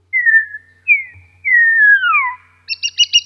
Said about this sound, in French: Des chants, on va dire, universels qu'on rencontre chez tous les étourneaux du monde, en tout cas les étourneaux mâles, qui sont les sifflements mentionnés ici, en haut, la classe 1.